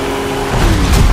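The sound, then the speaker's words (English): A car engine hums steadily, then a deeper rumble of traffic swells in partway through. The sound is fairly loud and brief, with no voices. “There might be a little bit of traffic ahead.”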